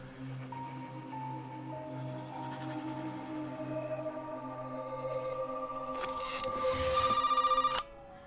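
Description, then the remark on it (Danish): A telephone rings with a call the same evening, its bell trilling loud over a sustained humming drone, growing more insistent toward the end before cutting off abruptly. No one speaks. “Christina Djarling ringer allerede samme aften.”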